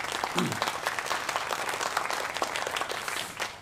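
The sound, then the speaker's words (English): An audience breaks into applause to honour those who have been serving in positions at Inglewood, many hands clapping in a dense, steady patter that holds at an even level for a few seconds without anyone speaking. “So I think it's important to honour them because they have done an unbelievable job. Give them a clap.”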